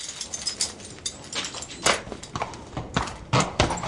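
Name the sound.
horse hooves clip-clopping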